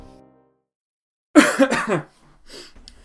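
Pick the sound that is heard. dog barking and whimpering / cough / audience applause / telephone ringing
cough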